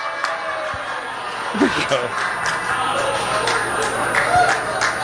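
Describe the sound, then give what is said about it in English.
A crowd at a staged stunt, where an apple was to be shot off a man's head, lets out a low, drawn-out collective groan of disappointment. It is a steady murmuring rumble of many voices that swells slightly midway and lingers for several seconds. “Oh, the disappointment in the crowd.”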